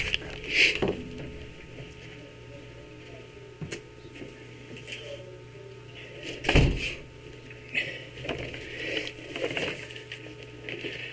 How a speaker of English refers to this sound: I'm just going to shut the door.